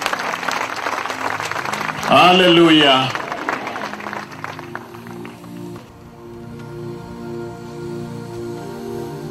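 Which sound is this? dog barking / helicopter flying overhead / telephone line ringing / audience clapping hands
audience clapping hands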